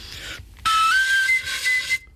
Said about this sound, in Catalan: I aquí ja tindreu una flauta sense forats, una flauta que en diem d'harmònics, és a dir, no té forats per digitar, simplement és un tub. Té el forat de bufa i el forat de sortir.